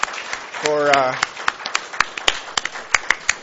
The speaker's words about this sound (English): So could you people clap to the people that are seated and show your appreciation to them? Thank you.